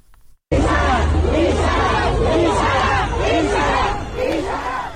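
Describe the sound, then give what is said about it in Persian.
A large crowd of protesters in Shiraz, Iran, chants slogans against the government in unison, many voices shouting together in a loud, rhythmic cadence that swells and falls steadily, with a dense roar of voices underneath. “در شیراز تجمع کنندگان علیه حکومت شعار سر دادند.”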